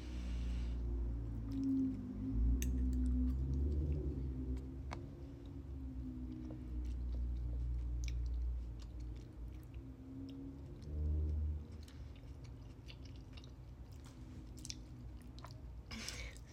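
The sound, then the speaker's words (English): Wet chewing of soft, mushy food, with smacking and squelching mouth noises continuing steadily for several seconds and occasional faint clicks, no talking. “Mushy.”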